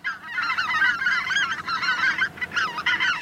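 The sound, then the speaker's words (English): A flock of greater white-fronted geese calls steadily, high yelping honks overlapping into a dense, continuous chorus with brief dips, fairly loud, with no one talking. “Greater white-fronted geese nest in the high Arctic, across North America, and from Greenland to Siberia.”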